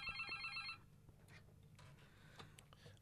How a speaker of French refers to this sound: Un téléphone. Un téléphone. Déconne pas.